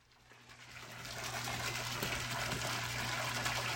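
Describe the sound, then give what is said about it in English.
Steady flowing water in a giant koi fish pond with a bridge, built in the driveway of a family home, swells up over the first second and then holds a constant splashing rush, with a low mechanical hum beneath it like a pump running. “I'm at my parents' house with Ba, in the driveway that he's turned into a giant koi fish pond with a bridge, his own space needle.”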